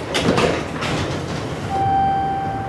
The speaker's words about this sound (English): Bathed in the international spotlight, the city's reputation is climbing like one of the incline railway cars that scale the steep hillside along the Monongahela River.